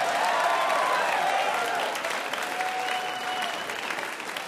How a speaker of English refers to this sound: You were awed. Like, that was amazing. They were really cheering for St. Elsewhere.